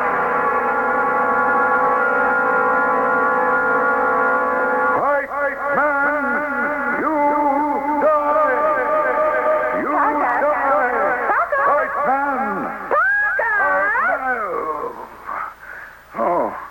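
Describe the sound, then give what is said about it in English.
A sustained, droning tone gives way to warbling, swooping pitches that smear and trail into each other, heavily echoed and loud throughout: reverb from a tape deck being set up. “That was the reverb you were hearing.”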